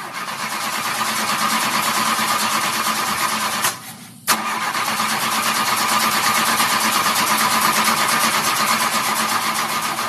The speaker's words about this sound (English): It just didn't want to start. The car just does not want to start. It's kind of like on a cold January day where a car would freeze up, right? You just keep cranking and cranking. Yep. And nothing gets going. It just didn't seem to get going.